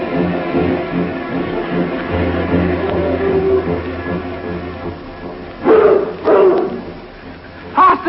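animal, bloodhounds barking

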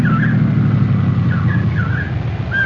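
vehicle, car approaching and stopping

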